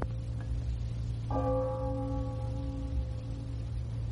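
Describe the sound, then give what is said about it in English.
A clock bell striking twelve o'clock rings with a clear tone that slowly fades, over a steady low hum, with a fainter chime just before it. No one speaks. “It's 12 o'clock all over again, isn't it”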